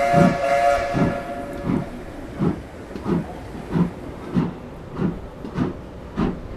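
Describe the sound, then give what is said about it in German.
A steam train whistle blows at the start over a hissing rush of steam, then the engine chuffs in steady, regular puffs about every half second as it gets underway. “Sonst verpassen wir noch den Zug nach Bethlehem.”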